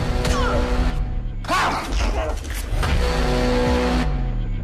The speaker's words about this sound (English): Car won't start.